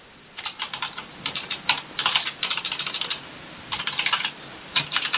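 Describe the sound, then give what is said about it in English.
Rapid keystrokes clatter on a computer keyboard in uneven bursts, with brief pauses between flurries of typing. The clicking is moderately loud, with no voices. “When you're typing, use the word breadth instead of scope.”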